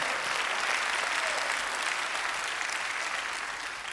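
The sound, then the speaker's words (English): An audience gives a hand clap of praise to the Lord, a dense, steady wash of applause from many people that holds strong throughout and eases slightly toward the end, with no talking over it. “Do I have anybody that would give a hand clap of praise to the Lord?”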